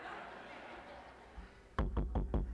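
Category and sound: impact, knocking on a door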